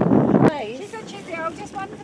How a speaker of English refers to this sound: And we're now having to resort to singing to keep our happiness going. You probably can't hear it because it's windy.